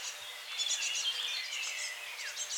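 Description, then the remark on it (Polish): Fledgling great tits, a few days out of the nest, chirp in a busy, overlapping stream of thin high calls, several birds twittering continuously with no voices present. “To młode sikory bogatki.”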